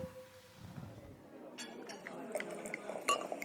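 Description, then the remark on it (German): Champagne glasses clink together in a toast, a few light chimes with one brighter ringing clink near the end, over soft background rustling and faint voices. “Dann stoßen wir nochmal an mit unserem letzten Glas, oder?”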